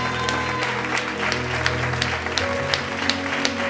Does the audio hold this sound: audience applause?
yes